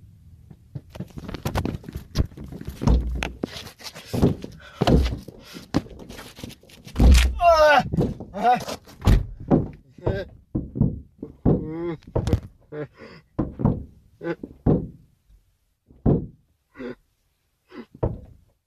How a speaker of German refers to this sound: Sie kommen und sie ziehen sich aus dem Auto wieder raus. Und dann hört man das auch sehr deutlich im Video, dass sie ihm den Arm brechen.